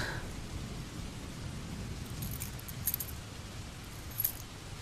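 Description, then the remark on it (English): Heavy rain pours down in a steady, dense roar with a deep low rumble underneath, broken by a couple of brief, bright metallic jingles toward the end. No one speaks. “Actually, I really should have brought an umbrella. Or a fortress.”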